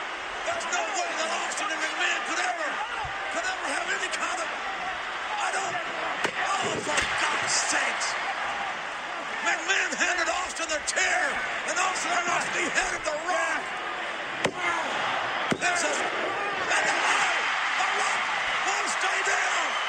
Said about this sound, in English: And at this point, oh boy, yeah, Austin had hit him flush with another chair shot. He kicks out again.